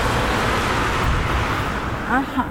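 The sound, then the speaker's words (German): Steady, loud road traffic rumbles through a small village, a continuous wash of engine and tyre noise from cars passing on the village road, with a brief voice-like sound near the end. “Wahnsinn, wie viel Verkehr da ist, oder?”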